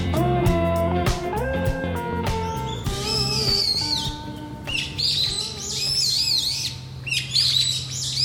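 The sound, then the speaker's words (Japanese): Birds chirp and warble in quick, bright bursts near a home in Hirakata, Japan, in autumn, growing busier through the second half, with a short musical tune playing underneath at the start before fading to a low steady hum. “いい鳥鳴いてるでしょう。”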